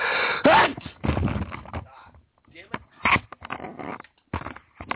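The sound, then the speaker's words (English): A loud sneeze bursts out near the start with a sharp rising onset, followed by scattered breathy snorts and shuffling noises. “I'm about to sneeze my head off here.”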